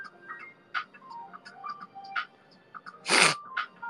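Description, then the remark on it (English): Nasal sniffing: a few short, soft sniffs spaced apart, then one longer, louder inhale near the end, with faint clicky mouth sounds in the quiet between. “Sniff like ASMR.”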